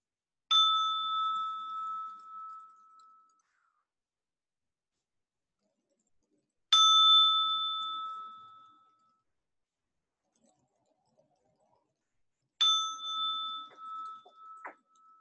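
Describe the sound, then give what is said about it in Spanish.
A meditation bell is struck three times to close a meditation, about six seconds apart, each clear metallic tone ringing out and slowly fading into silence before the next strike. No one speaks. “Ahora voy a tocar la campana 3 veces para cerrar la meditación.”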